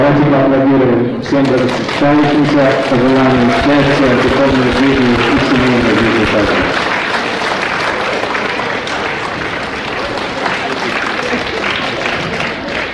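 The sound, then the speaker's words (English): An audience bursts into loud, sustained applause for newly married couples at a wedding ceremony, a dense wash of many hands clapping that follows a stretch of raised voices and carries on steadily to the end. “Ladies and gentlemen, let's have a big round of applause for all the married couples and wish them an auspicious marriage.”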